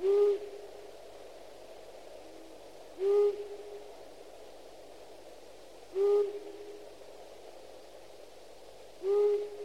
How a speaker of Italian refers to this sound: Tra i rapaci notturni ricordiamo il gufo,